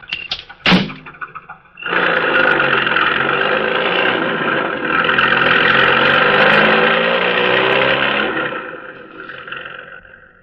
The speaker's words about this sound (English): Then, when the task is completed, the driver re-enters the car and speeds away.